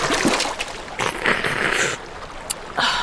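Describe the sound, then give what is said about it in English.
Water splashes and burbles steadily in a tiny, icy stream dashing across a trail's tracks, busy with brief louder surges and splatters over a constant rushing hiss, with no voices. “The boy wiped his mouth on his sleeve and straightened, allowing his father to take his place by the bubbling stream.”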